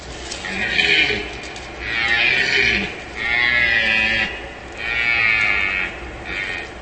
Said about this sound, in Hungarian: Már a hétvégén szervezett túrán lehet hallgatni a Gimszarvas állományáról híres Gemenci erdőben a szarvasbőgést.